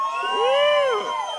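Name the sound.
crowd cheering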